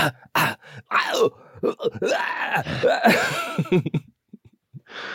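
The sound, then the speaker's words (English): A voice imitates gagging and dry heaving, with a burst of short retching groans and strained throaty heaves, then a brief breathy rasp at the end. “Or if I cough for too long, I start even. Yeah. Like that.”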